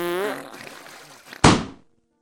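A short, squeaky fart with a wavering, falling pitch trails into a rough sputter, then a sudden loud bang of a balloon bursting cuts it off and quickly fades. No one speaks.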